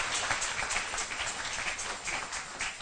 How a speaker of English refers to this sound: Are you clapping? Yeah.